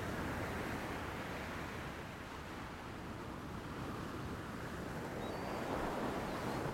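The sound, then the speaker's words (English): Steady, soft wash of ocean surf on a shore, a continuous rushing hiss that swells slightly near the end, with no voices, just the water running and receding. “Now you're letting the water softly lap up to your ankles, each time offering a caress and an invitation to wade in a bit more as the surf seems to pull you gently forward.”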